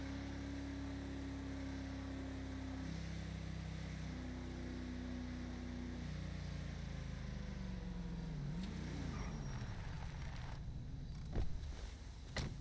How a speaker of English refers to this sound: Oh yeah, that's definitely a cop car.